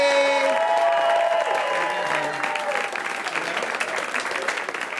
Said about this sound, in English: All right, ladies and gentlemen, one of the best comedians working today. Please put your hands together for Todd Barry.